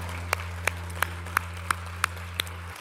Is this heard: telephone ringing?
no